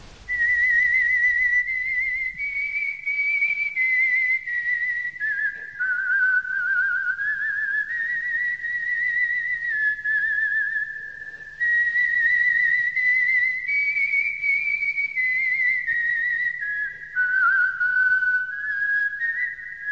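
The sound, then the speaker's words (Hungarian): A caged songbird sings without moving its beak: a steady, high whistled melody that glides smoothly up and down for about twenty seconds, loud and unbroken, with no talking. “Meg sem mozdítja a csőrét. És még így is tud énekelni.”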